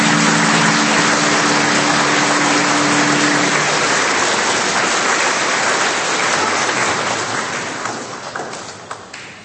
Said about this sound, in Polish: Myślę, że tu brawa się należy.